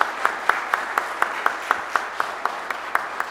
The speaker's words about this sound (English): And I would like for all of the men and boys in this room to celebrate all the women who are part of our church family. Would you give them a clap and a lift for how much we're grateful for all of you?